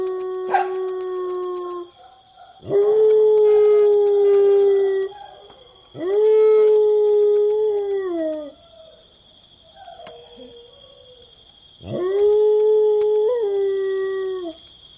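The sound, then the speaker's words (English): Several dogs, joining in after a neighbor slams a door, howl together in long, loud, overlapping swells that rise and trail off, broken by short pauses, with a thin steady high whine underneath and no talking. “And now the full chorus joins in.”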